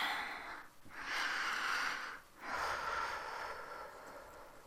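Two long, deep sniffing breaths, each lasting over a second with a short pause between them. No one speaks.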